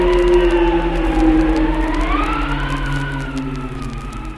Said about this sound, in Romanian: Vântul șuieră besmetic pe afară.